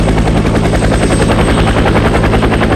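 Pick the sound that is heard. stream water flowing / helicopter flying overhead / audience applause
helicopter flying overhead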